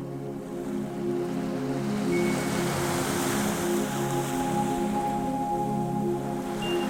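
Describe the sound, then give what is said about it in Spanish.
Steady wash of sea surf rolling onto the shore, a broad continuous hiss that swells gently around the middle, with a low hum running underneath and no voices. “Inhalas y el mar besa la orilla.”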